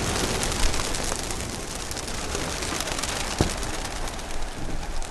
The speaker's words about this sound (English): See, the most I've ever had up here is about 700. And on the other roof, back in the day, I had about 2,600 birds up there. They look like a tornado.